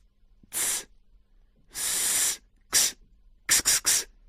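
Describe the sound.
A voice imitates hissing with five breathy bursts: two longer hisses, then a short one and a quick run of three, bright and airy with no words spoken.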